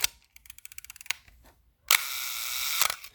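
A mechanical camera shutter with a mechanical timer fires for a one-second exposure: a run of rapid, evenly spaced ticks like an egg timer, then a sharp click followed by a bright whirring buzz ending in another click.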